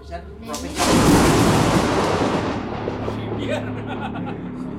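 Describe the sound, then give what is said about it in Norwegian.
A sudden, loud thunder crack as lightning strikes a small hut built of clay and sticks during a rainstorm, followed by a long rumbling, crackling roll that slowly fades; there is no talking. “Og mens jeg sitter der og prater, så lyner tornene, og så slår lynet ned også, I hytta.”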